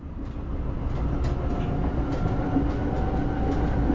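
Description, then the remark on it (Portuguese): A train arrives and rolls along the rails with a loud, steady low rumble, faint metallic clacks recurring every second or so, continuous with no voices. “E o trem chega, os três saem correndo, pula dentro do trem e vão embora.”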